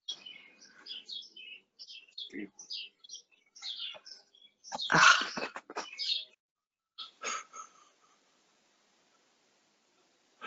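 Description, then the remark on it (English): Birds chirp and tweet in a steady scatter of short, high calls, with a louder burst of chattering in the middle before the calls thin out. No one speaks. “I can hear the birds in your background.”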